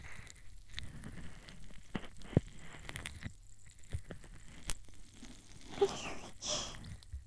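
Soft, continuous crackling fizz of carbonated foam from a fizzing tablet, applied with a cotton swab, quiet, with tiny irregular pops scattered throughout and a few slightly louder clicks.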